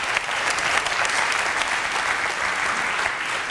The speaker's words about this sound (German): Einen herzlichen Applaus für Stefan Schulz.